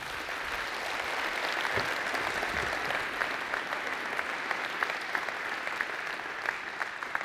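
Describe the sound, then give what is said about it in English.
Steady applause from a sizable audience as an insurance speaker is called up to present, a dense patter of many hands clapping at an even level throughout, with no voices standing out. “I'm an insurance guy, and you're clapping for me.”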